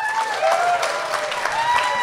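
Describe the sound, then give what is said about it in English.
Steady audience applause, a dense wash of many hands clapping at an even loudness for about two seconds, with a few faint whistle-like tones threading through it and no talking; the audience applauds if they have ever seen the film Strange Brew. “But maybe that's the thing, is like, applaud if you've ever seen Strange Brew.”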